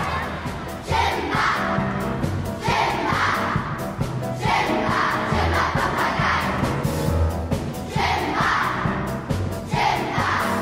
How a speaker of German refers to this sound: Jubel im Saal, als klar wird, jetzt kommt Djimba Papagei.